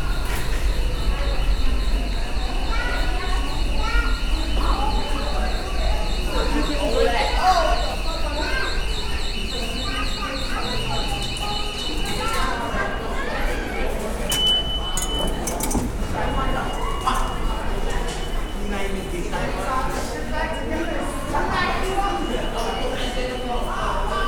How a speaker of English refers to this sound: wonderful sounds of the subway.